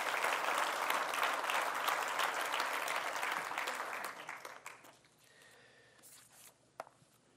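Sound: audience applauding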